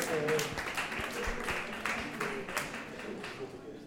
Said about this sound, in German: Da gibt es schon Fans. Sie dürfen ruhig klatschen für Steyr.